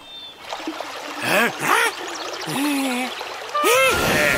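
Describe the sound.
A small stream of water runs and trickles steadily throughout, a continuous babbling wash, while voices make short exclamations and sounds over it.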